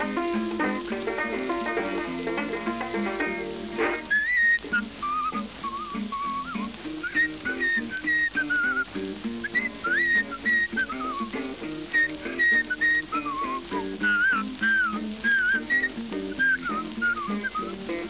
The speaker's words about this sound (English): He said, "Well, I'll whistle it." I said, "Well, whistle it then." Here he goes.